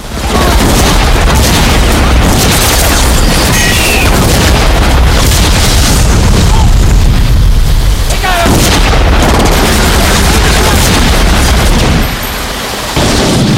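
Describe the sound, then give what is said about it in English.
A long, loud barrage of gunfire from police officers rips into a car: dense, overlapping bursts and heavy booms pounding almost nonstop for about twelve seconds before the onslaught suddenly thins out. “The cops draw guns and shoot the driver and his companion. Then they turn on the car.”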